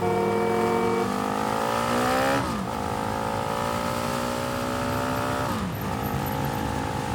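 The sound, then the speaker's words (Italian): A moped scooter engine drones steadily while riding through Rome around Piazza Venezia, its pitch climbing as it accelerates, dipping twice with gear changes before rising again; no voices are heard. “Attenti però che è zona pedonale, dovete parcheggiare il motorino.”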